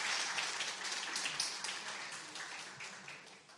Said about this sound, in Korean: 네 축하드리는 박수 하겠습니다. 네.